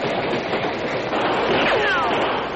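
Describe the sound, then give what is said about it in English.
A train speeds up a grade at full speed along the rails with a loud, steady rumbling roar. Faint metallic squeals slide downward partway through, and no one speaks. “The train seemed to increase speed, and he jumped nimbly to the side seconds before it bore down on the spot where he'd been.”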